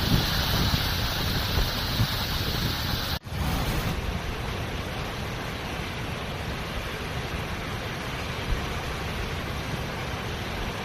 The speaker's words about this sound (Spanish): Por el viento sur, que esta semana nos deja temperaturas muy cálidas con lluvia, el deshielo de la nieve ha hecho crecer los ríos. Es el caso del río Oja, que baja así.